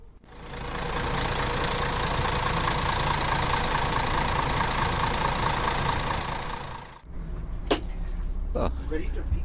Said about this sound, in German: Die wichtigste Person ist jetzt auch da, nämlich der Busfahrer. Und er hat den Motor angeschmissen. Jetzt geht's los.